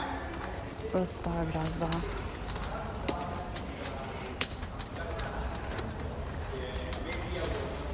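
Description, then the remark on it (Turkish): A white cane scrapes steadily along rough, non-marble pavement as the walker crosses a road, with a single sharp tap partway through. Its gritty rasp runs under a man's speech. “Bastonu sürtüyorum.”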